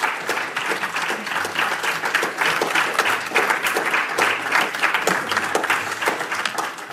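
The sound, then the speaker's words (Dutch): An audience applauds the guests after an introduction to the work of René Heijvaart, dense overlapping claps forming a continuous bright, crackling wash at an even, fairly loud level for several seconds with no voices on top. “Geef hen een applaus.”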